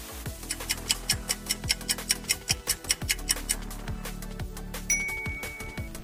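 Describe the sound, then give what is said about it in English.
A countdown clock ticks in a brisk, steady rhythm, crisp, over a low pulsing musical drone, with a brief bright tone near the end, timing a quiz on the Shona names of fruits. “Try to beat the clock.”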